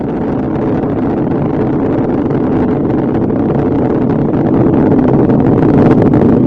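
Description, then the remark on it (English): The three main engines of the space shuttle Atlantis roar during launch, throttled down to 72% of rated thrust, a loud, continuous, rumbling blast that holds steady and swells slightly toward the end, with no voices. “And the three main engines on Atlantis have now been throttled down to 72% of rated thrust.”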